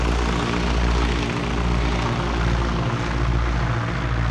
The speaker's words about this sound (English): The Spartan aircraft chugged above the crated rice paddies below, on its way to the relative safety of neighboring Thailand.